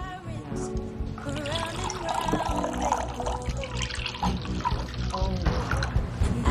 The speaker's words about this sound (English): Downtown Valentine is decorated for Valentine's Day. Olivia sits in the cafe alone, looking down at the table. Barbara Ray pours her a cup of coffee.